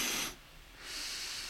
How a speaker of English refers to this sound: Nobody. I imagine wants to hear sniffing, any of it. Snorting, sniffing is probably much more nice for our customers